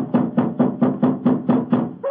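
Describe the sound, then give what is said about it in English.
A steady run of about eight loud, hollow knocks on the door of an elephant house, evenly spaced, cut off at the end by a brief different sound. “We must have been knocking here for 5 or 6 minutes.”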